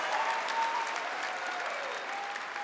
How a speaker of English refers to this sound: But it's just wonderful, you know, to stand up in front of people and talk about my frailties and my vulnerabilities and my mistakes, and having people clap and tell me they love me. It is still such an incredible kind of privilege.